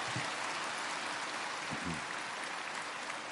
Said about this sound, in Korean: 합창이 저 그라시아 선도를 참 잘 부르긴 하지만 이번엔 더욱더 잘하는 것 같습니다. 여러분들이 성원이 좋아서 그런 것 같습니다. 정말 박수 한번 쳐봅시다.